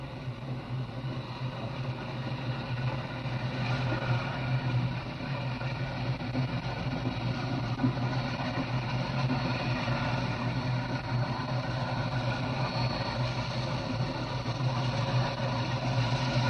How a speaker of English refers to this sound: Number 900 has uncoupled from the train. He's now backing down.